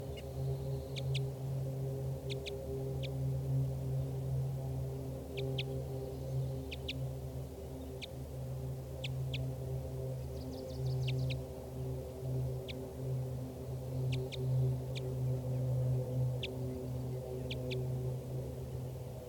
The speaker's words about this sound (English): Flight calls here by the wild female.